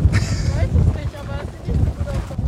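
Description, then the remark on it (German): Strong wind buffets the microphone outdoors as bad, stormy weather approaches, a loud, constant low rumble that swells in gusts from start to finish, with faint voices underneath. “Ich glaube, wir müssen umziehen, weil das wird zu windig.”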